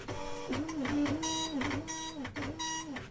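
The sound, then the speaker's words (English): An old dot matrix printer prints in a loud, continuous buzzing screech, its pitch rising and falling in repeated passes as the print head sweeps back and forth. “It's a dot matrix printer.”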